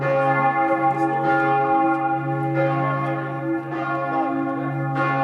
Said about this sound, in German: Die Glocken der Abtei läuten zu einer Vigil, einer religiösen Nachtwache, mit liturgischen Texten, Gebeten und viel Gesang.